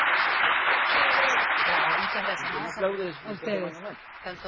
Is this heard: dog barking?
no